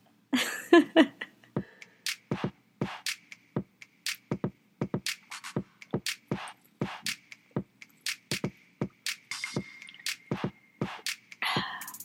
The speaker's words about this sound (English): All right, just popped down one of the gel cups with plenty of water, and it's 12:37.